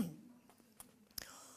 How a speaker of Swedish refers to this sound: Oj, man kan inte hosta här inte.